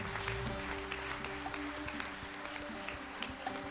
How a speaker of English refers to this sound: If you prayed that prayer today and you meant it, we say, welcome to Family God. Give me a hand clap.